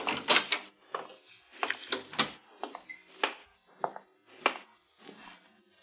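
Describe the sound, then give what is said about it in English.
Footsteps approach with about a dozen heavy, uneven steps over several seconds, each a dull thud with a scraping edge, some landing harder than others. No voices are heard. “Finally, approaching footsteps, and we watched to see who would enter.”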